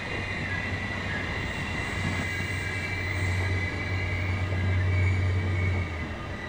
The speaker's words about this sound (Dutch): Weer een trein.